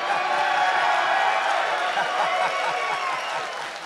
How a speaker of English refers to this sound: How does that make you feel when you come out after all these years and the term of endearment that they choose to cheer is, you suck?